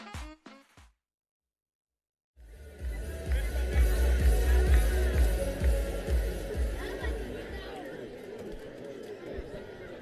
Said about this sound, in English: North Carolina State Night at the ballpark tonight, so an energized college crowd in the building for this one. Friday Night Baseball at Five County Stadium.